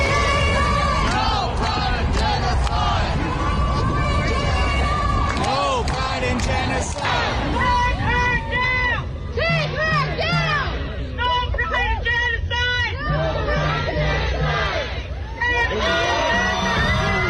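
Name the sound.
crowd gathered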